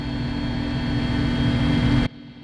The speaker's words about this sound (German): Zum Glück ist für Ohrenschützer gesorgt. 20 Minuten lang dröhnt der Helikopter über die Hügel. Erst über Weidelandschaft, dann über dichten Wald, Urwald.